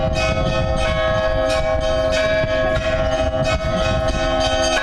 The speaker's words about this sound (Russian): Колокольный перезвон возвестил о приезде правящего архиерея на Гавриловскую землю.